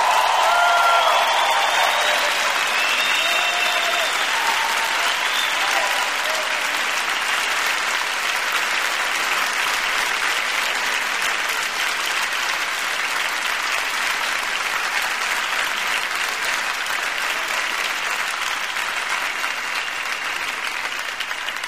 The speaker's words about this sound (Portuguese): Se essa salva de palmas é pra Jesus, bata porque ele merece.